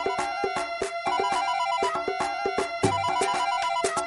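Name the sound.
mobile phone ringtone ringing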